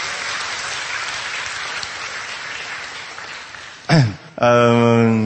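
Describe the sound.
A crowd claps steadily for several seconds, a dense patter of many hands, welcoming a man called up to share his testimony, before it gives way to a sharp burst of sound and then a voice taking over.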